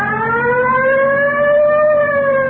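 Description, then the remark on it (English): A police car siren wails loudly and steadily as officers pull over a car near Yucca and Coinga Boulevard, its pitch rising slowly in a long continuous tone with strong harmonics, with a low engine rumble beneath and no talking. “You want to hit the siren?”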